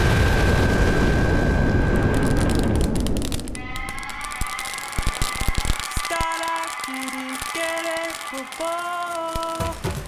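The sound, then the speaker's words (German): A screwed-shut bottle bursts with a loud, rushing roar and deep rumble that hisses on for about three seconds, then fades as a bright, tonal melody takes over. “Wenn es knistert, müsst ihr euch die Ohren zuhalten da vorne.”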